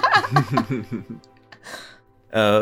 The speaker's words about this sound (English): Hang on a moment, I need to clear my throat.